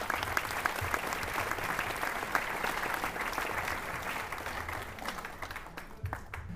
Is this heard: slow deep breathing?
no